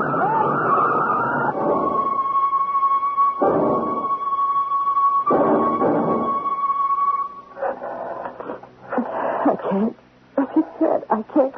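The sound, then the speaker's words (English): A truck skids with a long, steady, high screech lasting several seconds over loud, rough surges of noise, then breaks into choppy, irregular bursts of clattering sound. “Ed, watch out for the truck!”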